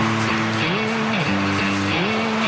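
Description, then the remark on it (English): A 1960s car drives past, its engine humming steadily and loudly over broad road noise, its pitch stepping up and down a few times as if shifting gears. No one speaks. “Nice car. I know it's 60s.”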